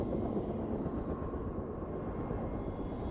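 A helicopter drones steadily overhead, its heavy low rumble loud and continuous from start to finish, with no voices.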